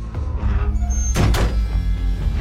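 Two quick knocks on a door, fairly loud, land in a rapid pair over a steady low rumble of background noise.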